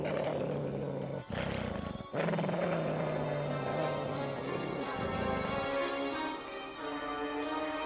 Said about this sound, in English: Oh my God, my son really is a wolf. He's killing Shivers.